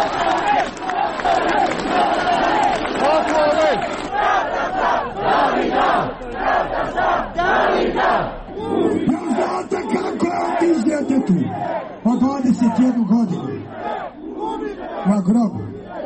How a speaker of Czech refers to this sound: Na skupu nije bilo incidenata, a evo djelića atmosfere građana koji su protestovali zbog ubistva mladića Davida Dragičevića.